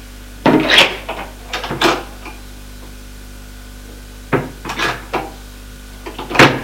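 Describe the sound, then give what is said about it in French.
A rosewood sideboard is opened with a series of knocks, scrapes and rattles, coming in several short bursts separated by quiet pauses, with no one speaking. “Voit un buffet en bois de rose. L'ouvre.”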